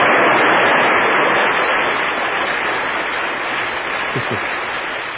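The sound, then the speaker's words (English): A dense, steady wash of crowd applause, like a large audience clapping continuously for about five seconds. It stays loud and hissy throughout, fading only slightly, with no voices. “A large group of people applauding, ladies and gentlemen.”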